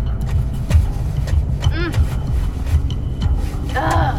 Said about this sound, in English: Elsewhere, at the same time, Rochelle was being taken far out of Atlanta. In the trunk of a car, Rochelle kicks and thrashes her surroundings.